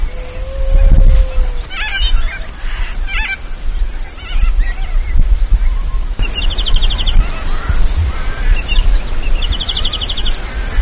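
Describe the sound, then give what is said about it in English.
A brief, faint howl of a dingo across Cooper's Creek opens the scene, followed by a peaceful dove calling and corellas squawking in the distance, with repeated chirps of a little pardalote in the tree overhead and a cicada in a warm breeze over a steady outdoor background. “A dingo across on the other side of Cooper's Creek, a peaceful dove and corellas in the distance, a little pardalote in the tree overhead, a cicada in a warm breeze.”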